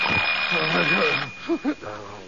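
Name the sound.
alarm clock ringing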